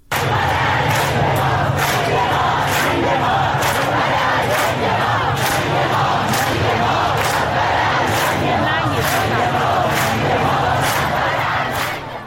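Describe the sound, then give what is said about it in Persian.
A large crowd chants the slogan "Death to the dictator" in unison on Valiasr Street in Tehran, Iran, voices loud and steady with a rhythmic beat of repeated shouts pulsing throughout, over a constant roar of many people. “در خیابان ولیعصر تهران هم شعار مرگ بر دیکتاتور سر داده شد.”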